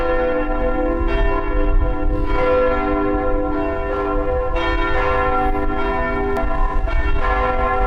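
A church bell, hung by the parishioners and volunteers, rings steadily, its deep, sustained tones overlapping into a continuous rich drone with repeated strikes every second or so. No one speaks.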